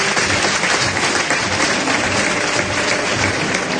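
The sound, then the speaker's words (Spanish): A bullfight crowd breaks into a sustained ovation for David, a dense, steady wash of many hands clapping at a constant loud level with no pauses. “Ovación a David, a palmas y aplauso porque la buena intención de estar ahí, ¿no?”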